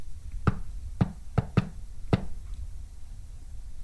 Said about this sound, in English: All it'll take is a knock with some rhythm, and that'll prove that there's nothing there.